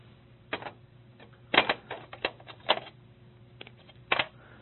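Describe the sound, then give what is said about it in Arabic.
Short scratchy strokes of a pen on a board come in irregular bursts separated by brief pauses, as the heading 'Sources' is written with a second pen. Fairly quiet, with no one talking. “نحط قلم ثاني.”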